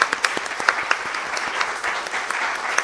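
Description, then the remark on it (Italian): An audience claps steadily to welcome a speaker, many hands blending into a dense, even patter of applause with sharp individual claps standing out, no voices heard. “Se vogliamo anche salutarla con un applauso, benvenuta.”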